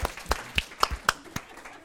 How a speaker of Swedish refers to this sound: En stor applåd.